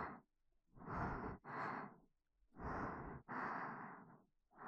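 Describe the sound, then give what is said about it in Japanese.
Slow, heavy breathing right up against the microphone, with a few long breaths in and out in a steady rhythm, each one soft, airy and intimate, with no talking. “私の息遣いが聞きたい。”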